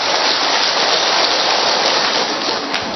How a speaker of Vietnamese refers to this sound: Chúng ta cho tràng pháo tay thật lớn thưa anh chị em.